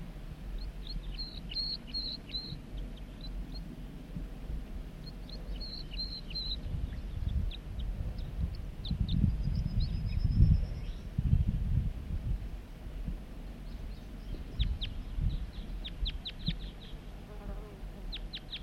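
A wild male bird sings from the top of a big dead snag in short bursts of quick, high chirps and a brief thin whistle, fairly faint, over a steady low buzzing hum. No one speaks.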